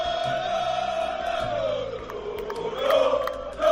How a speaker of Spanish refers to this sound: 2.500 valencianistas estaban en Milán para asistir a este encuentro y en las calles animaban a su equipo, se abrazaban y gritaban así.